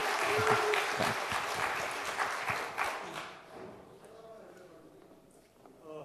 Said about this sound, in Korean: 큰 박수로 예.